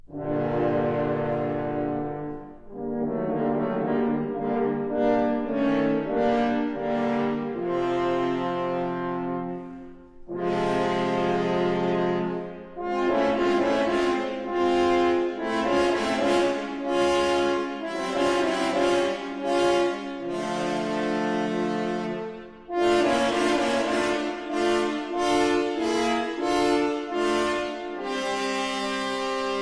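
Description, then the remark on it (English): Three French horns play the wolf's theme: a loud, brassy, ominous theme in sustained low-to-mid chords, with swelling phrases and short pauses between them; no voices are heard. “The wolf is represented by three French horns.”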